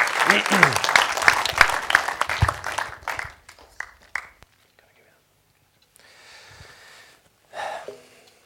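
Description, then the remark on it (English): A crowd bursts into dense, crackling applause that thins out and dies away after a few seconds, followed by a quiet stretch with some soft breathy noise and a brief muffled burst. “Thank you, we have to give this guy a big round of applause.”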